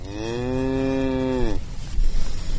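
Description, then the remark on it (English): A single long, loud moo from a steer on the grassy plains of eastern Kansas holds a steady droning pitch for about a second and a half, then breaks off, leaving a low outdoor rumble with faint scattered noise. “This is the good life for cattle, wide open spaces.”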